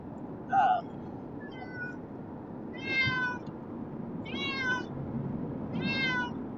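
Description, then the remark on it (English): A cat meows repeatedly during a car ride, about five drawn-out, wavering cries spaced a second or so apart, moderately loud over a steady low rumbling background. “I feel like the longest he's meowed.”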